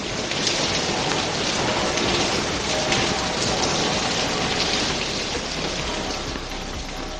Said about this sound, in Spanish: Sevilla ha vivido un día de Corpus inédito, con la procesión recogida en el interior de la catedral, mientras afuera era el momento en el que jarreaba agua con más fuerza.